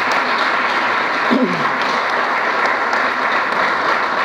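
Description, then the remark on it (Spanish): Steady, dense applause from an audience, many hands clapping at once in a continuous wash of sound that holds level for several seconds, with a brief murmur of voices underneath. “Otro aplauso”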